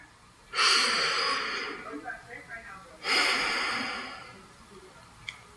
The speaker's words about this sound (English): Before we get started today, I want to invite you to take a deep breath with me.